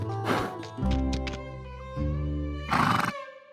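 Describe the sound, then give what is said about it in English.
A horse whinnies, opening with a breathy burst, then a sustained quavering cry that sinks in pitch and ends in a loud, rough blast of breath. No one speaks. From a new horse sound library made for the animated show Spirit Riding Free. “We got a whole new horse library because in that show, there's three characters who are horses”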